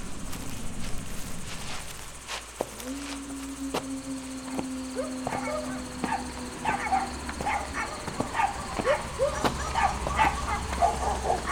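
Several dogs bark repeatedly, their yips and barks overlapping in an irregular chorus over a steady outdoor background hum. All the dogs are barking at two people going by.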